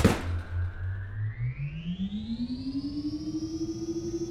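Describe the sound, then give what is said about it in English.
A switch on the bridge is thrown with a sharp thunk to turn everything on, then a low electric hum starts up and climbs steadily in pitch over several seconds, throbbing in quick, even pulses as machinery powers on. “So, to get started, this switch turns everything on.”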